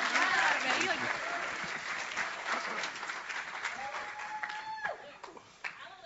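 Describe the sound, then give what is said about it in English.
A crowd applauds a man who recently graduated, clapping steadily for several seconds, a dense wash of clapping that slowly thins out toward the end, with faint voices and cheers mixed in. “And give a, he just graduated not that long ago, so give a clap for him, man.”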